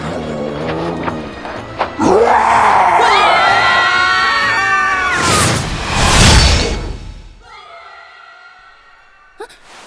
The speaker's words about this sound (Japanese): 皆さんの悲鳴ですよね。 屍兵に襲われてるんですか？へえ、あの美しくない集団は君たちのお仲間かい？